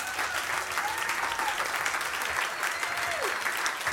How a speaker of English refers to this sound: So we really owe him a round of applause.